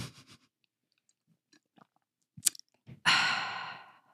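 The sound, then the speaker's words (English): A loud slurping sip of hot Bigelow Earl Grey tea, a breathy rush lasting about a second, preceded by faint clicks, a cup clink and small mouth noises in near silence. “Do a nice slurpy sip for everyone.”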